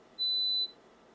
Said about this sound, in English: This bottom trace here is the tone that the computer is playing. And the top trace is the sound that the mosquito is hearing.